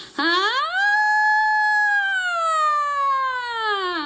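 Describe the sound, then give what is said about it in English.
A singer's single voice sweeps upward in a smooth siren-like glide as a vocal exercise, sustains a bright high tone, then slowly slides back down, clear with no words. “Same thing with sirens. You can do that here as well.”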